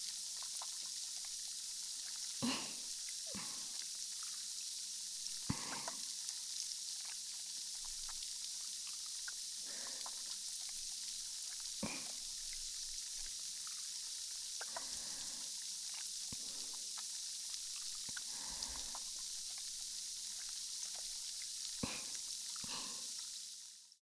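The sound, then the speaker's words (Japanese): Wet, squishy sounds from hands working a lather of carbonated foam, with irregular soft squelches and tiny crackles over a steady fizzing hiss, quiet. “泡手でクチュクチュして。”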